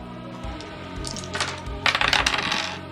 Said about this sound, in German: Würfelt bitte auf Initiative. Wie geht das denn? Haha, jetzt kommen wir zur Initiative. Was ihr macht, ist 2d10 würfeln.